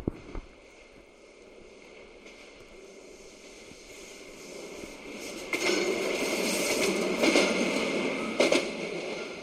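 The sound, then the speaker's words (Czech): A train rumbles past on tracks that run over a tunnel, growing louder over several seconds, with a broad roar and a few sharp clanks as the cars roll by; no one speaks. “Doufám, že mě neviděli z toho vlaku.”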